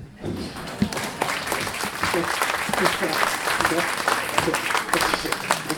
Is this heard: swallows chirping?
no